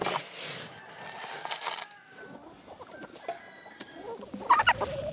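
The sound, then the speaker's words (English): A flock of over 100 farm hens clucks and chatters in overlapping, irregular calls, with a busy barnyard bustle throughout and a louder squawk near the end. “Today, they have over 100 hens.”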